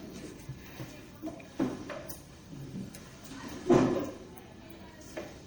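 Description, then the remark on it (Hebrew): A door bumps and clatters a few times, with one heavier thud partway through, over faint background murmur. “נו, דלת, נכון?”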